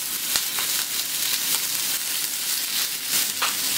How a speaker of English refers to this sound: And you want to see the pan start to smoke. And we're going to put in our beef and fry it on both sides till it's a crispy golden brown. And remember, don't crowd the pan, we're going to fry it in two batches.